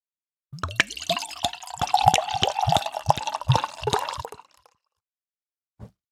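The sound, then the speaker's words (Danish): Beer glugs out of an English-inspired glass ale bottle from Fanø in rapid, uneven gulps for about four seconds, a wet pouring rhythm, then stops; one small splash follows after a pause. “Nu hælder jeg lige om et øjeblik først, fordi den der lyd...”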